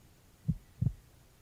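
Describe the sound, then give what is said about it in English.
A single human heartbeat, two soft low thumps in quick succession, muffled, over a quiet steady background with no voices. “Can you hear my heartbeat?”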